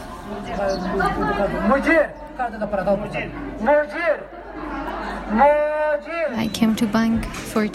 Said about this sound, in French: Je suis venue à la banque pour retirer mon salaire. Les gens sont en train de se disputer, de crier sur les employés, qui eux leur demandent d'attendre leur tour. C'est très énervant et bruyant.